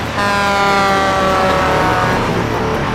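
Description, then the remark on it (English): A truck approaching a toll booth roars along with a steady loud engine rumble, topped by sustained blaring, siren-like tones that hold their pitch for about three seconds, with no talking. “Slower vehicles are hurried through the toll booth as the truck gets closer and closer.”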